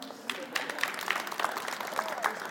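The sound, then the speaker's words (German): A burst of audience applause, many hands clapping in a dense, steady patter at moderate volume for a couple of seconds. “Applaus.”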